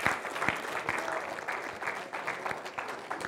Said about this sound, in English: Let's worship God. Let's give him a great hand of applause. Thank you, Lord.